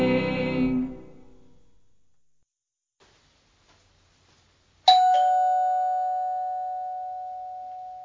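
Two chimes of a front-door doorbell rung by someone at the door, well apart: a lower tone fades out first, then after a short silence a bright, ringing note strikes sharply and hums on, slowly decaying. No voices.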